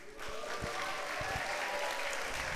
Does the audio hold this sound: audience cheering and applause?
yes